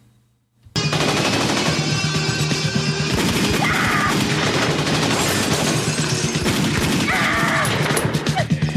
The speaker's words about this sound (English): The two armed military men are entering the warehouse and Sydney fires at them. Sydney ducks as the guards fire back and there's broken glass flying around.